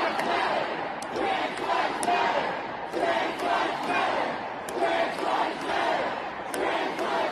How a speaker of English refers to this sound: And for the listening audience, I mean, it's wall-to-wall people inside of the Oklahoma State Capitol building. Like, the standing room only crowd on the balconies and elsewhere, chanting at the lawmakers.